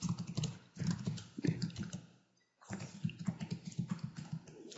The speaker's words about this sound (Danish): Og her skal du så skrive dit brugernavn, som du har fået udleveret. Jeg har et her, som jeg bruger til testbrug.